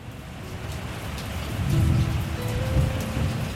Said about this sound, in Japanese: 雨はだんだん強くなっていきました。